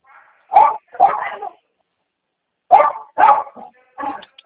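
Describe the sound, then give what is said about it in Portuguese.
A dog barks in two short bursts, two or three sharp barks each, separated by a brief pause of silence. “o cachorro chato, hein?”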